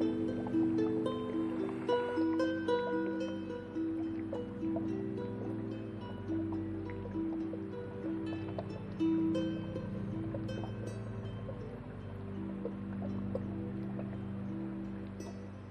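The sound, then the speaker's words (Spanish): Gentle water sounds, soft lapping and scattered drips, flow continuously over a steady low humming drone, calm, with no one speaking. “Conecta con el agua.”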